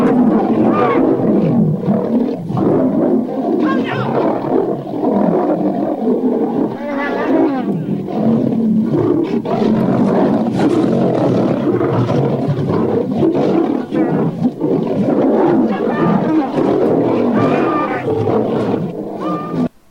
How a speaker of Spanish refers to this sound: intentó separar a cuatro leones peleándose entre ellos, y bueno, vamos a ver el resultado de la secuencia, que es bastante bastante curioso.